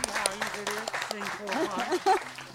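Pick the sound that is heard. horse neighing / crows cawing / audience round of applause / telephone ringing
audience round of applause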